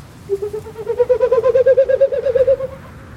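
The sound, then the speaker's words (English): A bird calls with a steady, warbling tone that pulses rapidly for a couple of seconds, rising slightly in pitch before fading. Fairly loud, with no one speaking. “That's all you got for me, Bird? Can you give me a middle C?”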